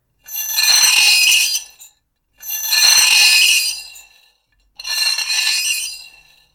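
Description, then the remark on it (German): A fork scraped hard across a plate gives three long, shrill squeals, each lasting over a second with brief pauses between, mimicking screeching car tires. No one speaks. “Als erstes muss eine Portion quietschender Autoreifen her. Dafür braucht ihr einen Teller und eine Gabel.”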